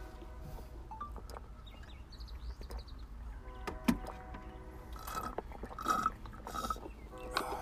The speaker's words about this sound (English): So on that note, let's go ahead and drink us some water. Cheers.